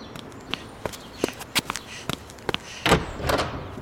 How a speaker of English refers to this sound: that was like one of the best footstep sequences we've ever had. I like ever that. That is yeah. It's running towards yeah. us. It's getting yeah. louder as it goes.